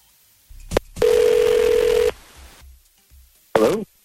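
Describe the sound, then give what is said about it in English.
Telephone dialing and ringing as radio hosts at 102.9 The Wolf call someone on air: a quick beep, then a steady electronic ring lasting about a second, and after a pause a short warbling ring tone, fairly loud, with no talking. “Okay, so Taylor, can you hold on and we'll try to get Mike and we'll get him on the phone, see what's going on, all right?”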